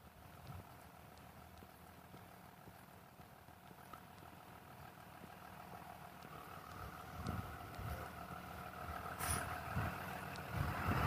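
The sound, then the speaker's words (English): A school bus rumbles by on a street in the morning, its deep diesel engine droning steadily and growing louder as it draws closer, with some wind noise and no talking. “Sound of a school bus.”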